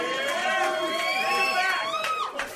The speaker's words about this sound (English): Yeah. I used to come to the Vancouver Grizzlies games. This is a... this is a good crowd because they're cheering a team that consecutively sucked. Yeah. That's why I like this crowd.